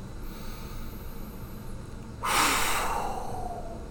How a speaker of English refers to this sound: Oh, you're really getting the stress out. Do you hear how I forcefully pushed out the air?